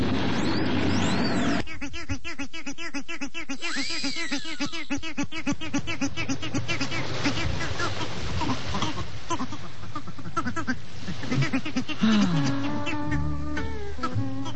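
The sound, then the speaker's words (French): Turkeys on a beach gobble in a loud, continuous chorus of rapid, rattling, pulsed calls that overlap for the whole stretch, with higher warbling notes rising and falling over the steady gobbling. “Il vous emmerde pas, mes dindons?”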